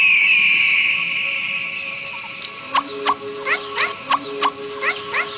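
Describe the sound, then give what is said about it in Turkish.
A meerkat sentry's alarm call warning the others after an eagle notices them: a rapid series of sharp, high chirps, about eight in quick succession, rising clearly above a steady hissing outdoor background. “Nöbetçinin alarm sinyali diğerlerini uyarır.”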